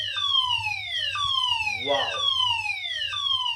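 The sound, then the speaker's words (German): A fire alarm wails in loud, piercing tones that sweep downward and repeat roughly once a second, over a steady low hum, with a brief murmur of voice partway through. “Wow, es gibt hier gerade einen Feueralarm, wie ihr vielleicht hört.”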